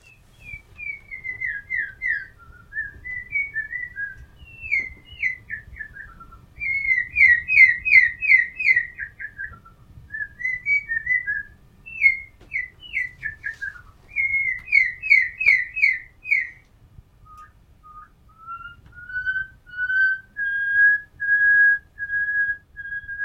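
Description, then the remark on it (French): A blue-winged robin-chat (cossif à ailes bleues), recorded in Africa by Claude Chapuis, sings a long run of flute-like whistled phrases, rapid trills and rising-falling notes repeated in varied bursts, ending on sustained pure tones, clear over a faint low rumble. “fait par Claude Chapuis en Afrique, d'un oiseau que j'aime énormément, le cossif à ailes bleues, qui est très, très surprenant parce qu'il a non seulement un art de la construction musicale, mais aussi un timbre d'instrument humain, si j'ose dire.”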